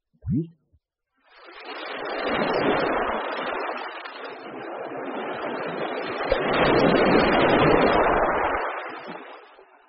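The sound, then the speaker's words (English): A brief voice is heard at the start, then ocean waves roll in with a broad, steady roar that swells and eases over several seconds, fairly loud. “Waves.”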